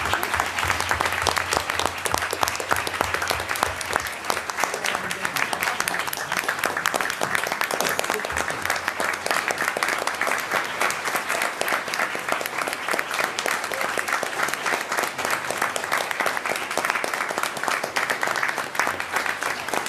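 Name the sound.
audience applause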